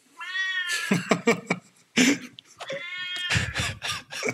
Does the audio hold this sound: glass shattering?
no